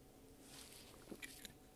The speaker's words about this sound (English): Let me take a sip of my water.